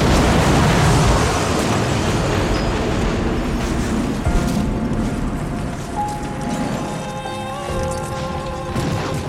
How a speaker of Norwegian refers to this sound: I stedet høres en annen lyd, Et forferdelig brak gir ekko over hele flyplassen I det KLM-flyets motorer og understell kolliderer med Pan Am-flyet.